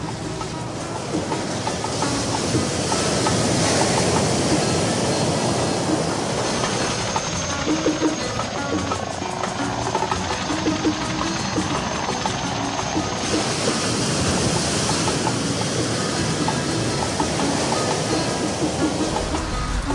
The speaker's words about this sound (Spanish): Cuando el mar está movido y llegan olas espectaculares a la playa, los salpicones alcanzan al malecón, provocando la diversión de los cubanos, que animan así sus paseos con duchas refrescantes.